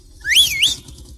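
A single loud whistle rising and falling in pitch in two swoops, calling to the woman driving a Bulldog, with low rumbling noise underneath.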